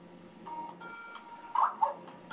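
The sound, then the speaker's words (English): A Skype incoming-call ringtone plays on its own, a steady electronic tone pattern that ends with two brighter, louder chiming notes close together, slightly muffled and moderately quiet. “Skype call, huh? Yes. I wish I could change that ringing noise because it drives me nuts.”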